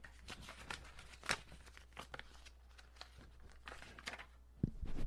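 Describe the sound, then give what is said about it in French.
Paper tearing and crinkling in quick, irregular bursts as a paper-wrapped package is ripped open, with a steady low hum underneath and no talking. “Bon, j'ai réussi à l'ouvrir.”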